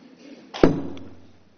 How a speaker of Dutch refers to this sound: U hoort het wel, hè? Deze hamer klinkt anders, hè? Ja, dat was een hele tour. Dit is je moet hiervoor het juiste slagrubber vinden zonder bounce, is het woord. Dus hij heeft geen dingetje nodig.